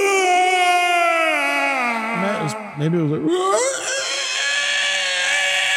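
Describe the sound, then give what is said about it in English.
A voice imitates a woman's loud, guttural scream, a long strained wail that falls in pitch, breaks into a rough, gurgling rasp midway, then rises into a sustained shriek. “She then let out this loud, guttural scream.”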